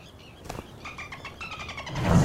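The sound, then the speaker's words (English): A car engine turns over with a run of short rhythmic whirs, then catches and revs, swelling into a louder roar at the end. No one speaks. “Some men travel to camp by car.”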